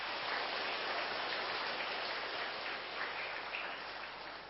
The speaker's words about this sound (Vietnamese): Nếu quý vị thấy đức khiêm tôn là cần thiết cho con người và phải nỗ lực làm cho bằng được, thì hãy dâng cao tràng pháo tay để cam kết.